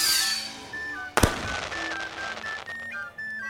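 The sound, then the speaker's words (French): A single sharp firework-like bang bursts out as an un-birthday cake flies into the air and bursts into a shower of sparks, followed by a long fizzing crackle of sparks that lingers for a couple of seconds over thin, steady whistling tones. “Alice souffla la bougie et le gâteau s'envola dans les airs, avant d'éclater en une pluie d'étincelles et de révéler un loir endormi en son sang.”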